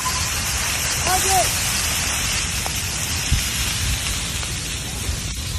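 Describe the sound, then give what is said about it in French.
A wildfire, the CSU Lightning Complex fought by Milpitas firefighters, roars steadily through vegetation: a dense rushing hiss with scattered crackles and pops, fairly loud throughout, with a brief faint tonal whine early on. “On entend dans cette vidéo publiée par les pompiers de Milpitas qui combattent le CSU Lightning Complex, le feu qui crépite et qui dévore tout sur son passage.”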